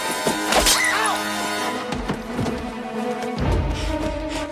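Several dull thuds and sharp thwacks land at uneven intervals, forceful, as a woman kicks and punches to fight off a man grabbing her through a car's back door, over a steady droning background with no voices.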